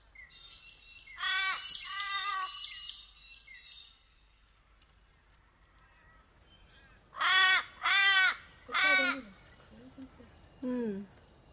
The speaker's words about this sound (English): They're ominous, the crows. Are they here for the sheep?